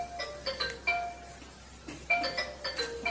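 A phone rings with an incoming call, a bright electronic melody of tonal beeps, two bursts of the tune separated by a short pause, fairly clear with no talking.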